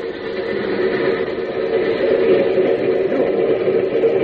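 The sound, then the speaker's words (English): A train coming in on the next track makes a steady, continuous roar: a dense low rumble with a rushing mechanical hiss layered on top. It holds at an even loudness throughout, with no talking. “Train's coming in on the next track.”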